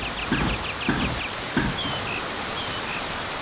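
A thrush sings in a forest, a quick run of repeated short chirps, then a few clear whistled notes, over the steady rushing of a swollen river, with a few dull low thuds early on from the rhythmic beat of a forge's trip hammer in the distance.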